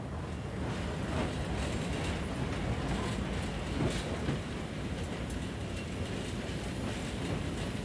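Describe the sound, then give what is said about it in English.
A steam locomotive runs along the track with a steady, dense rumble and rattle of wheels, holding an even loudness throughout with faint clanks now and then and no voices. “I've put too much in the middle of the firebox.”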